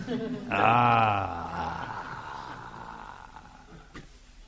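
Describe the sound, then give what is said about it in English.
A person imitates a tiger's roar with one loud, throaty growl that swells for about a second, then trails off into a breathy, fading rumble. “So, again he was not satisfied, but then, because then tiger came.”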